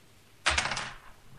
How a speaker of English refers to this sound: Did you just throw your keyboard? Yeah.